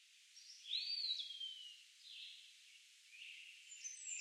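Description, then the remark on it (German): Soft, high birdsong in spring: a bright whistled sweep early on, then scattered thin chirps over a faint airy hiss. Quiet, with no voices. “Die Vögel zwitscherten fröhliche Melodien.”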